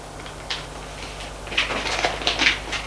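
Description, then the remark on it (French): Papers rustle and crinkle in a handful of short, crisp bursts, moderately loud, growing busier toward the end, with no voices. “Et voit que c'est des papiers.”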